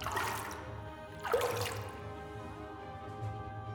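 Water trickles and drips steadily in a cave, with a brief splashy surge partway through and hollow, ringing echoes lingering underneath. Quiet and continuous, with no voices.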